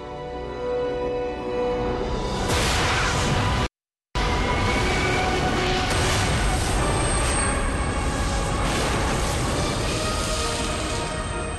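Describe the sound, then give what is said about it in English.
A cinematic Big Bang explosion effect from the Fox TV series The Cosmos: a loud, sustained, full-bodied roar and rumble that swells, breaks off into a moment of silence, then surges back and keeps thundering, with no talking. “January 1st, the Big Bang.”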